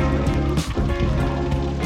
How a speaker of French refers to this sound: Pleut sur Berkeley